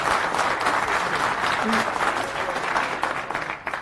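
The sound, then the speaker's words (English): Steady audience applause at FOSDEM Lightning Talks, welcoming speakers, a dense crackle of many hands clapping at an even, sustained loudness that tapers only slightly toward the end. “Give them a warm applause and welcome.”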